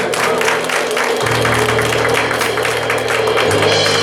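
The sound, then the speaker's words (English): An audience claps together as a hand clap of praise to Jesus, in a steady, dense wash of applause, with a low sustained organ-like tone underneath for most of the stretch. “Let's give Jesus a hand clap of praise this morning.”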